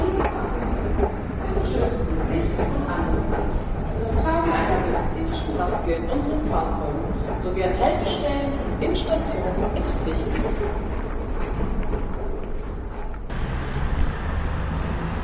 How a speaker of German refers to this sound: Laut rumpelt die Straßenbahn an mir vorbei. Auf der Anzeigetafel steht die Linie 2.